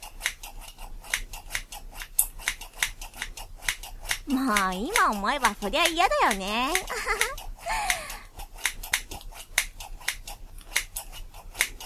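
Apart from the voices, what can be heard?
toy scissors snipping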